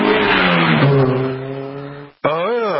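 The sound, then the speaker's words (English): A car with a loud, raspy muffler roars past through a plaza, its droning engine pitch sliding downward, then cuts out briefly before revving up and falling again. “Yeah, the gentleman just passed through the plaza here. I think he needs a new muffler.”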